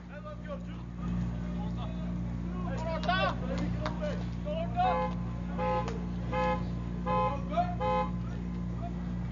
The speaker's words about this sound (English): I'll make sure we're not falling victim to auto theft here in Alvin. So was car alarm going off over there.